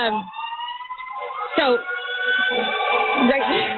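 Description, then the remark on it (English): An ambulance siren wails continuously as the ambulance goes by, its layered tones fairly loud and steady, growing slightly stronger toward the end, with faint muffled voices underneath. “Sorry, we've got an ambulance going by right now, guys.”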